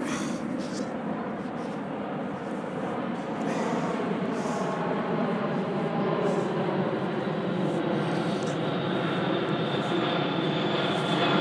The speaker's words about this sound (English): There's quite a plane going over there.